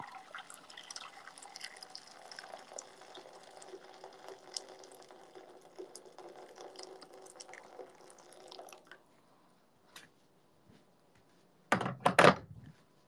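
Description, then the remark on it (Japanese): Freshly boiled water is poured steadily into a frying pan for several seconds to make Sapporo Ichiban shio ramen, a rushing splash that stops abruptly, followed by a pause and a loud metallic clunk as something is set down. “フライパンでいいかな。お湯を注いで。”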